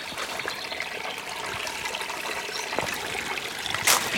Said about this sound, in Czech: A my už tady asi přicházíme k té studánce. Vypadá to tak. A nebo to je ten potok. Že přicházíme tak k potoku.